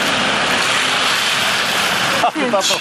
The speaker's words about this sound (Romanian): A venit avionul, auzi.